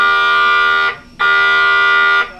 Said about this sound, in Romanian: Să știți că am lăsat special ambianța sonoră ca să auziți atmosfera de la bord pe parcursul întregii zile. Ascultăm! Alarmă de fum, alarmă de fum în compartimentul Tech Office, secțiunea 2, Charlie. Mecanicul vitalist, veniți în compartimentul.